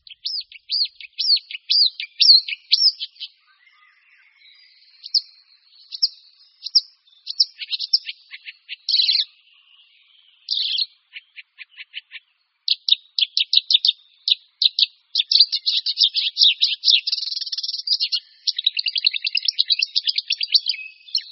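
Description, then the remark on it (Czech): Marsh warbler song: a long, constantly changing stream of fast chirps, trills and buzzy phrases mixing in mimicked calls of other birds such as goldfinch, tree sparrow, tits, blackbird and skylark, loud, with no other sounds. “Dlouhotrvající zpěv, neustále obměňovaný, s řadou prvků imitujících nejrůznější jiné ptačí druhy, to je charakteristické pro rákosníka zpěvného.”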